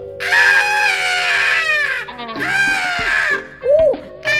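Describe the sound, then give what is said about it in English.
A voice imitates a shrill, high-pitched anime-style scream in two long, loud bursts with a wavering tone, separated by a brief pause, then a short squeaky yelp at the end. “Now scream like a manga. Scream like an anime.”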